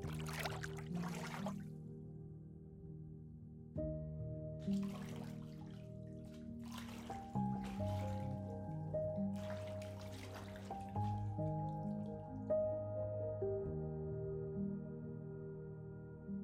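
Water splashes and trickles in several short bursts as someone sinks under the water of a huge bathtub, heard over steady, soft, low musical tones that hold throughout. No one speaks.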